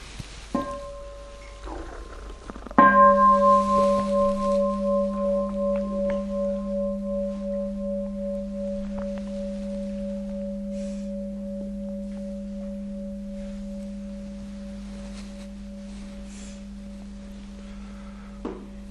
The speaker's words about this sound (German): Dann hören wir noch mal kurz eine Glocke.